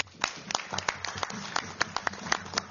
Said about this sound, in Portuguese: Aplausos dos diferentes líderes que felicitaram António Costa.